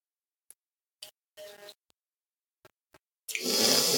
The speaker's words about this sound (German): Aber trinken wir auch noch einen Schluck.